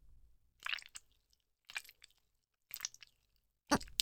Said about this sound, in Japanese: ほら、中がクリームで柔らかくほぐれているから、動かしやすいわ。出し入れすると、お尻からぐちぐち濡れた音が漏れて